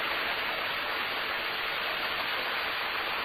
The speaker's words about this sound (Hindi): बादल ऊपर आकाश में पानी का त्याग कर रहे हैं, जोर से देखो, और उनको खुशी हो, बादलों को खुशी हो रही है, जोर जोर से पानी को छोड़ रहे हैं।